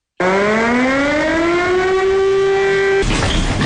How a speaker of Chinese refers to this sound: 随着警报声响起，陆军第71集团军某旅官兵立即转入一等战备值班，迅速奔赴战位，展开装备，做好抗击准备。